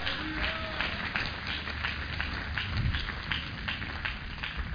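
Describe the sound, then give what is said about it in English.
An audience gives a clap offering to the Lord, many hands overlapping into a dense, continuous patter of sharp slaps at an even loudness for several seconds, with no voices standing out. “Give a Lord a clap offering, somebody.”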